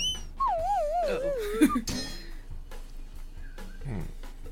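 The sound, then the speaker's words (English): Two cats fighting outside a house: a long, wavering yowl slides downward in pitch, then harsh hissing bursts and scuffling, followed later by a fainter, shorter wail. “There's two cats fighting outside my house right now. Yeah, we can hear them.”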